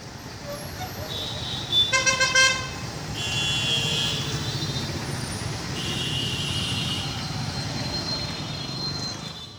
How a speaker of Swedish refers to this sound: Trafiken på vägarna står nästan helt stilla i rusningstrafik och det tutas frenetiskt. Ibland verkar höger- och vänstertrafik tillämpas samtidigt.